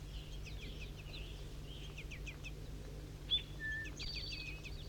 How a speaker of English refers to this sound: Juvenile begging calls.